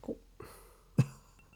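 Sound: wine glasses clinking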